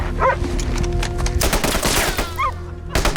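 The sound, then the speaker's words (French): A loud, rapid volley of gunshots cracks out in close succession as a group of Nazis shoots at a man's dog, with brief high yelping cries before and during the shooting and no one speaking. “Comme la bande de rocklers qu'ils sont, ils vont décider de s'amuser à tirer sur son chien.”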